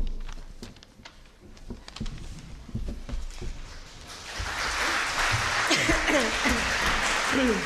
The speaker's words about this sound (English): Clapping in church, oh my goodness.